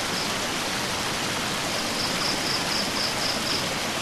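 A steady, full rush of water pours continuously from a waterfall into a clear pool surrounded by rocks, plants and trees, with a faint high chirp repeating several times in the background during the second half.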